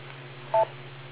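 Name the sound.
telephone dialing tones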